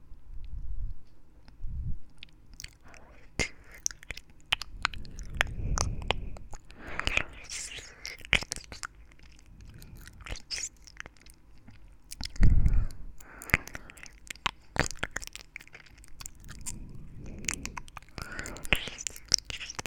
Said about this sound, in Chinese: 咬一口把它含住，包在嘴里，用舌头去嚼它。